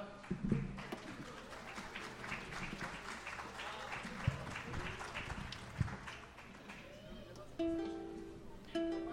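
An audience claps steadily for several seconds, a dense patter of many hands, with a few shouts and some murmuring mixed in before it tapers off as a sustained tone comes in.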